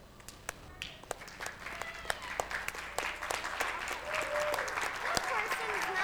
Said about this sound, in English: You know what a standing ovation is? They stand up and clap their hands. Okay, so you guys start clapping, and we'll see if all these people will stand up and start clapping for God too. You ready? Okay, go.